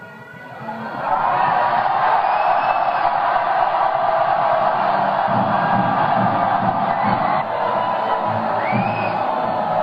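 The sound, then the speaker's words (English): An audience bursts into loud, sustained screaming after a second, with a few rising whoops on top, while an orchestra plays faint, low, rhythmic repeated chords pulsing underneath. “I suggest that we start screaming during those 11 repeated chords, and we'll see what happens.”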